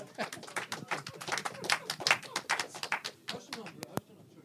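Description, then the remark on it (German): A burst of hand clapping, dense and irregular, with many sharp claps running together for several seconds, then a few isolated louder claps toward the end. “Ich darf trotzdem klatschen”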